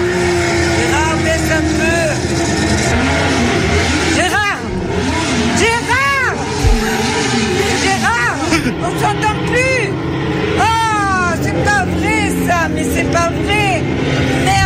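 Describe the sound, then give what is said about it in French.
Racing motorcycle engines scream and rev over and over from motorbike videos watched on a computer, pitch sweeping up and down as bikes pass by, loud and continuous with a murmur of crowd noise underneath. “Gérard se met devant l'ordinateur à regarder des vidéos de moto”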